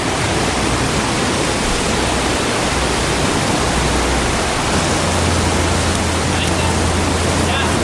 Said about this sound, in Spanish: Ese es el rugido del mar en la cala del Caracol, en el sur de Gran Canaria.